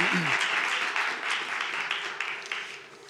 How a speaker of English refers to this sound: I guess if we clap for anything, it should probably be God's word.